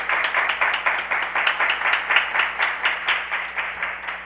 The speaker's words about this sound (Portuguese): Um aplauso.